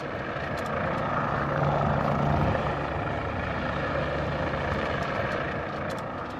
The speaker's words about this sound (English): The plane of 2006 world champion Kirby Chambliss materializes out of the sparkling desert sky and dives down to the opening gate in the 2007 Monument Valley semifinals.